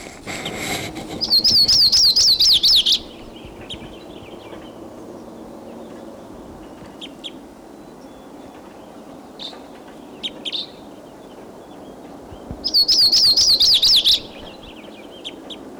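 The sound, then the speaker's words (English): A Type 2 crossbill in the tree right above a truck chirps in two loud bursts of rapid, high warbling notes about ten seconds apart, with a few faint single chips and soft outdoor hiss in between. “We're putting a wild bird.”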